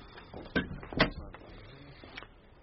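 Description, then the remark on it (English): A door is pushed shut: two solid thuds about half a second apart, the second louder, with a faint rattle and quiet shuffling afterward. No one speaks. “Be so good as to close that door,”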